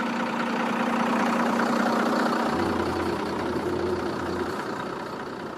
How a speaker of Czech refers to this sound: Autobus startuje a vyjíždíme nahoru.